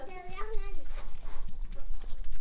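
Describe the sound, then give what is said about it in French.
A donkey's hooves step in a few irregular, muffled thuds and clops, with a voice briefly talking at the start before the footfalls. “Fais juste attention à tes pieds s'il pose son sabot, qu'il ne pose pas sur ton pied.”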